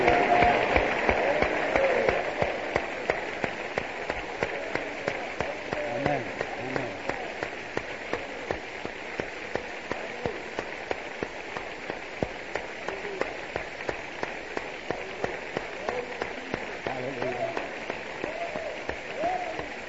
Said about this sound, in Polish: I chcemy Jemu dać chwałę. I bijmy brawo naszemu Panu, ponieważ On jest godzien.